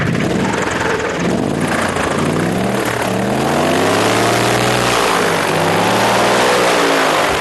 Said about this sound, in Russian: Первый пробный круг – аэробот выполнил сразу после церемонии вручения. Винт настолько мощный, что, находясь на расстоянии нескольких метров от берега, отбрасывал брызги на нашу камеру. Двигатель 260 лошадей, винт.